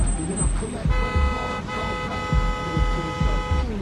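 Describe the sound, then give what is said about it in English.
A car horn blares in a long, steady tone over the low rumble of traffic as a sedan inches forward, with engine noise throbbing underneath the whole time. “Now the pregnant woman inches the sedan forward in traffic.”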